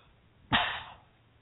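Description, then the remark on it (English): A single sharp sneeze bursts out, loud and breathy, then trails off within about half a second into quiet. No one speaks. “Excuse me, I erupted in a sneeze there.”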